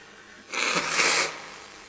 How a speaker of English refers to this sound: It's much more relaxing being able to blow your nose when you're not on a live stream.